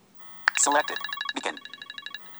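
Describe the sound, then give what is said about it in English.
An iPhone ringtone preview plays: a quick rising electronic chime, then a rapid, evenly pulsing run of bright synthetic tones that stops after a couple of seconds. The sound is clear. “And so you can hear the vibration and the ringtones, what that particular ringtone sounds like.”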